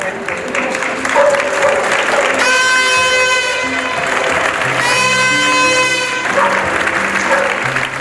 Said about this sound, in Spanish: Testimonios y aplausos de vecinos de Amurrio, en concreto de las calles Mendico y Lucas Rey, calle popular de Amurrio, que recogen un poco de el espíritu de los días 11 y 13 de abril de 2020, de vecinos y vecinas confinadas